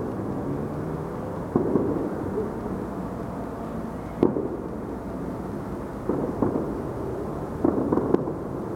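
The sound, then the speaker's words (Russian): Fireworks pop and crackle in scattered bursts at night, five or so over several seconds, above a steady outdoor street hum. No one speaks. “И опять уличный фон громче звуков из окон, да еще эти фейерверки.”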